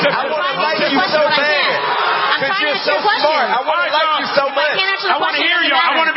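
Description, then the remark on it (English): A large audience voices loud, sustained disapproval, a dense wash of overlapping booing and shouting that holds steady for several seconds without a break, booing a speaker's statement that slavery was all over the world. “And you're just going to boo when I say slavery was all over the world, which is a fact.”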